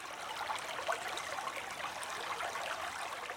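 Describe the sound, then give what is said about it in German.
A gently babbling stream crossing a path in a snowy landscape trickles over stones and rocks, a steady, soft burble of running water with small splashy flickers, continuous, with no voices. “Plätschernd und gurgelnd fließt das Wasser hinab, bahnt sich glitzernd seinen Weg um Steine und Felsen herum, findet unbeirrt seinen Weg.”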